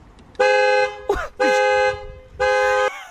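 A car horn honks three times in sharp, loud blasts, each about half a second long, with brief bursts of excited voices squeezed between the honks.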